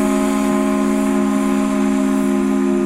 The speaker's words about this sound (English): If you spend time here in New England, you might be hearing the sound of rolling waves on a beach, the sharp whistle of a ferry.